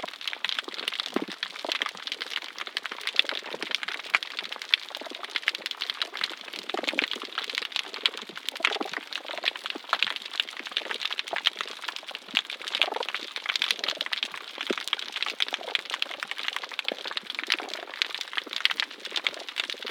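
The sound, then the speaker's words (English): Knocking sounds from singing damselfishes underwater, signs of territorial defense: short, irregular low knocks scattered through a steady, dense bed of fizzing, crackling noise, with no voices. “The knocking sounds are signs of defense.”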